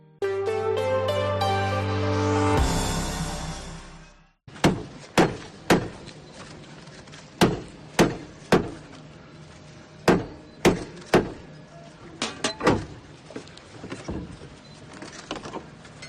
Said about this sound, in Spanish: Así sonaba la apertura de la Puerta del Perdón. Daba comienzo hace casi un año ya, el 74 año jubilar lebaniego.